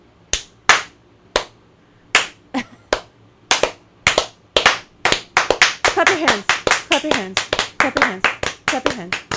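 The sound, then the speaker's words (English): Sharp hand claps, sparse and uneven at first, then speeding into a quick, steady run of loud smacks. Bright, percussive bursts with a faint low hum underneath. “Clap your hands.”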